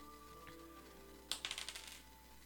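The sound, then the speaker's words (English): Dice clatter across a hard tabletop in a quick burst of sharp clicks that bounce and settle over about a second, following a stretch of quiet background hum. “Oh, that's not the right dice.”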